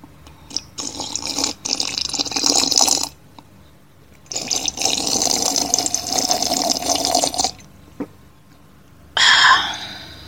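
Someone drinks water in two long, steady stretches of gulping and swallowing separated by a short pause, then finishes with a sharp, breathy gasp. No one speaks.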